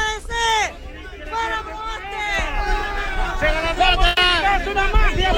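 A crowd shouts at a senator during a press conference in a loud, continuous clamor, several raised voices overlapping with strained, rising and falling pitch and no pause in the noise.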